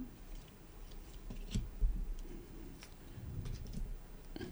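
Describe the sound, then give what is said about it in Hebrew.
Quiet, irregular soft taps and light slaps of playing cards being set down face down on a table, one after another, card by card to build a pyramid of cards, with no voices. “וכל פעם בתורי אני מוריד עוד קלף ועוד קלף ועוד קלף עד שאני בונה את הפירמידה.”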